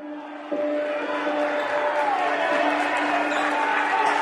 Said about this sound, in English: Squeaking shoes and whistles and fans cheering and the ball bouncing and, you know, the coaches shouting. And you can paint a picture in your head.